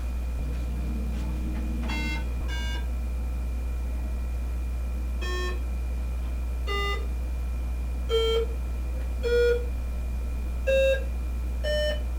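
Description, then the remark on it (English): Short electronic scoring beeps from a feedback game, each sounding when the player scores by keeping the red ones down and the green one up, sound one at a time at uneven intervals, about eight in all, each a clear bright tone over a steady low background hum, with no talking. “And whenever you do, you score, and you hear the beep.”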